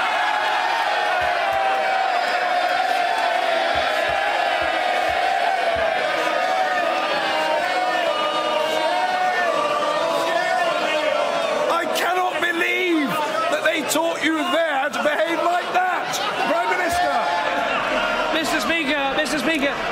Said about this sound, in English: A lot of history in this shouting